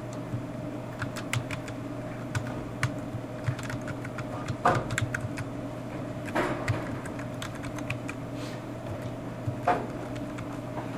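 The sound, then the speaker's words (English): Irregular bursts of keyboard clicks from someone typing a name into a computer, with short pauses between runs of keystrokes over a steady low hum. “Okay, so I've typed in the name of the information.”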